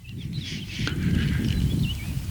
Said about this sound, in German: Und das ist jetzt aber ein Kleiber. Der Kleiber eröffnet sozusagen. Eröffnet das Duett.